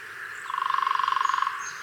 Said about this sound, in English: Now, walk away without a headache, or worse, some kind of traumatic brain injury. No, you say? Well, I don't blame you, but in essence, that's what woodpeckers like the one you're hearing do all the time.